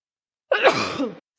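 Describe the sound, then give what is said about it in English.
A single loud human sneeze bursts out suddenly, sharp at the start and trailing off in a breathy rush about half a second later, with no talking around it. “I can't sneeze quietly, guys.”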